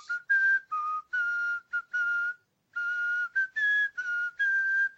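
person whistling a melody

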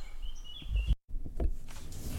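birds chirping outdoors

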